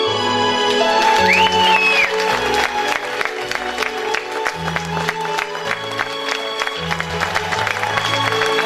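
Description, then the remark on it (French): Steady audience applause for a performer on the show Café des artistes, a dense patter of clapping mixed with bright music and bass notes, with a brief rising whistle early on. No one speaks. “Mesdames et messieurs, sous les applaudissements,”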